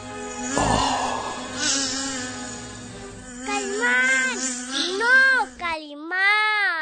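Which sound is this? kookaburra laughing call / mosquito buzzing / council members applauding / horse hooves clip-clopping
mosquito buzzing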